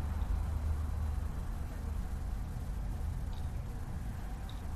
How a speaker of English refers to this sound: We're here at St. Joseph's Church, Avenue Walsh in Paris. There's a lot of traffic. Large traffic.